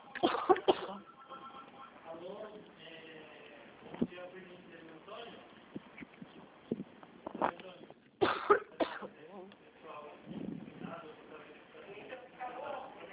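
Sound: coughing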